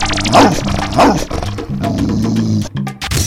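A small dog gives two loud, sharp yaps about half a second apart, then keeps up a string of thin, high-pitched whining noises.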